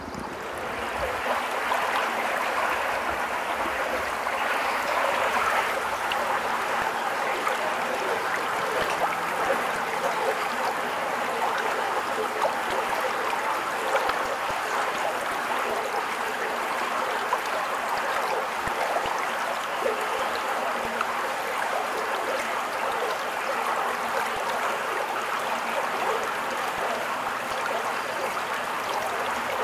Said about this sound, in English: This is going to be the water coming through the culvert, or just downstream of the culvert.